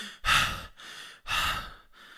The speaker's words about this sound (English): Turn the beat off, man, can you see I'm gasping?